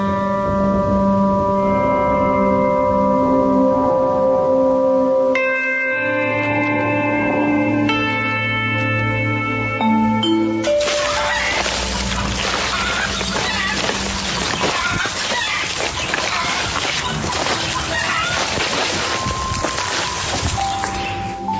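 A thin trickle of river water, recorded in January 2015 during a drought, runs steadily, its soft splashing gurgle clearest in the second half, after a stretch of sustained tonal sounds that overlap it early on.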